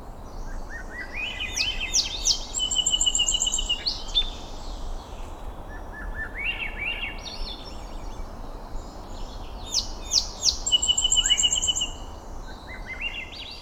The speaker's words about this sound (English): In the following recording, Swainson's thrush shares the soundstage with a song sparrow.